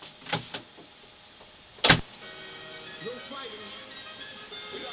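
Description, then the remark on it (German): A door marked "Disco" opens: a couple of soft clicks, then one loud, sharp clunk of the latch or handle, followed by a steady low background noise. “Und da ist die Tür.”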